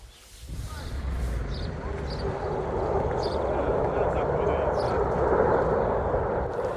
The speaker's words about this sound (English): Just had to take cover because a jet was flying overhead and we had to spread out.